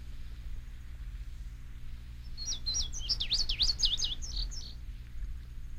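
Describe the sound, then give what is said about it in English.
A bird sings a quick series of bright, rising and falling whistled notes for about two seconds, clear, over a steady low background hum. “This tape will help anyone to become familiar with a bird's basic song.”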